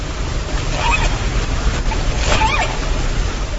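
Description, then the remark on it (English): A dense, steady underwater rumble of ship engine noise, loud and continuous, with deep low-end churning and a few faint higher sweeping tones passing through the wash, recorded by an underwater microphone near the shipping lanes off Vancouver Island, Canada. “That's the sound recorded through an underwater microphone placed near the shipping lanes off Canada's Vancouver Island”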